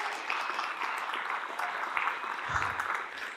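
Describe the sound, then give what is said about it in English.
Steady audience applause for Fat Merchant, a startup that graduated from the program: a dense crackle of many hands clapping at an even, sustained level for a few seconds, with a faint low murmur briefly rising near the end. “Let's hear it for Fat Merchant.”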